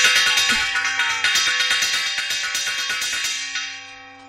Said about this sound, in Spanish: ¡Ojo! Ese es el carillón.